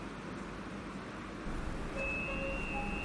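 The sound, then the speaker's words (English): Steady low rumble of a metro train in motion, with a brief rise in noise midway and thin high-pitched whines and tonal squeals appearing toward the end, no talking. “Shahid Hemat Station. Oh, here I have to get off the train.”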